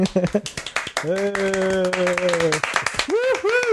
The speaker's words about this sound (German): Sonst fangen wir mit dem Klatschen jetzt schon an.